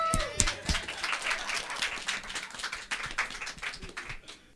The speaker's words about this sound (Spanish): Un aplauso para la señora Silvia que andás a ver.